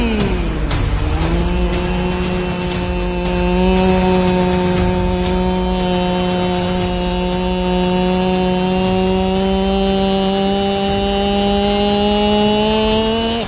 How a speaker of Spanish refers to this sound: Vuelve una máquina taladradora.